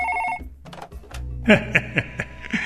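A telephone rings with bright, steady electronic tones at the start, then a series of sharp, rhythmic ringing pulses follows, fairly loud, with no one speaking.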